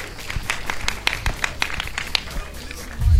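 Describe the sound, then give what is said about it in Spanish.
A small audience claps for a few seconds, a steady patter of overlapping hand claps with sharp individual hits, ending as a low rumble rises at the close. “Un aplauso”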